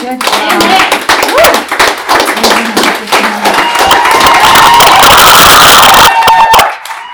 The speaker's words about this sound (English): You don't need to applause and you don't need to cheer.